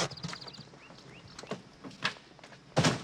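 Scattered clicks and shuffling as two people get out of a car, car doors being handled and feet stepping out, then making their way around the side of a house, with a few sharp taps and a heavier thud near the end, no voices.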